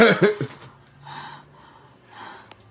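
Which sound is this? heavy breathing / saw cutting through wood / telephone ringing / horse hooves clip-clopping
heavy breathing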